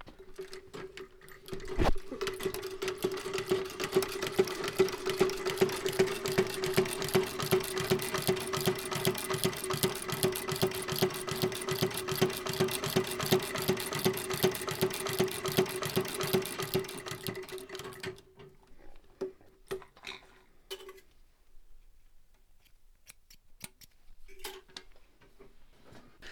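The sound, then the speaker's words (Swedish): A foot-treadle shoemaker's long-arm sewing machine with no electricity, powered only by the feet during a power cut with snowfall outside, runs for about sixteen seconds, a fast, even mechanical clatter over a steady low hum, then winds down and stops, leaving a few scattered soft clicks. “det är kanske den vanligaste maskinen som skomakare använder.”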